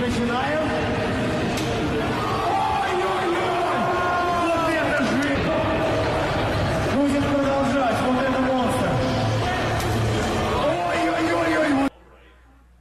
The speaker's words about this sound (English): Okay. Yeah, but that pretty much describes it. Yep, that's the Russian slapping championships. Okay, so essentially two guys stand across from each other in what is an arm wrestling table, right? I mean, they hold on.